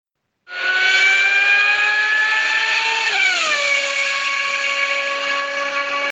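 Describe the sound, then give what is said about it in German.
A Formula 1 car screams past, its loud, high-pitched engine whine holding steady before sliding down in pitch midway as it passes (Doppler effect), then droning on lower. No one speaks. “Den kann man nicht nur beim Krankenwagen hören, sondern auch zum Beispiel bei einem Formel-1-Wagen.”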